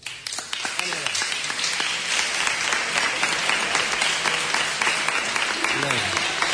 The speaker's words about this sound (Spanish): Un aplauso.